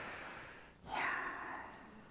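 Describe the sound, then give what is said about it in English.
A single heavy breath rushes into the microphone, a broad airy whoosh that swells and slowly fades, with no talking. “Did you hear my breathing?”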